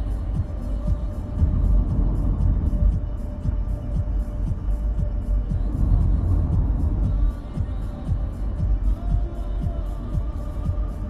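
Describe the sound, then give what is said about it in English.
Steady low rumble of a car on the road, heard from inside, with constant engine drone and small irregular bumps throughout; no one speaks. “So yeah, I'm just driving around.”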